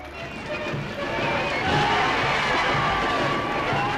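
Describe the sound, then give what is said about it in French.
A large crowd in London cheers and shouts for Prime Minister Neville Chamberlain on his return from the Munich conference in September 1938, a dense, continuous roar that swells after the first second and then holds steady and loud to the end. “À son retour à Londres, Neville Chamberlain, le Premier ministre, est ovationné par la foule reconnaissante.”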